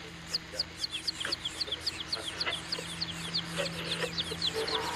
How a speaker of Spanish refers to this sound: ¿Los pollitos? Oigo, pollitos. ¿Dónde están? ¿Pollitos?